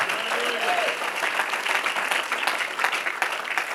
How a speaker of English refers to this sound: If you believe it, clap your hands unto the Lord.